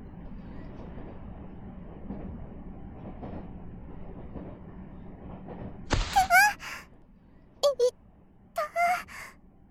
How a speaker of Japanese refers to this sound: この電車は通勤快速、市役所前駅です。次は中学校前です。